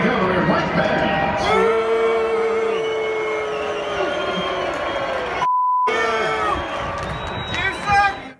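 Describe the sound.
A large crowd boos Mike Pence and angrily chants "traitor" as he keeps giving his speech, a dense, loud roar of many voices that persists throughout, briefly cut by a short electronic bleep partway through.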